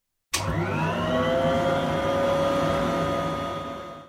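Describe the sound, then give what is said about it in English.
A robot vacuum called robo-vacuum switches on when its start button is pressed, with a sudden onset, and settles into a steady, loud whirring motor hum with a rising whine, running continuously before fading slightly at the end. “What about this button under the name robo-vacuum? It's the start button. Press it to start or stop the device.”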